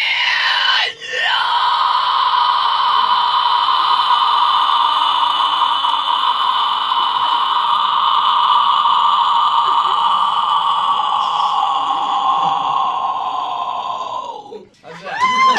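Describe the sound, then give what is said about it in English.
A person lets out one long, piercing, raspy scream imitating a raptor, held steady and loud for around thirteen seconds after a brief break at the start, with no talking over it. “We call it the Raptor Scream.”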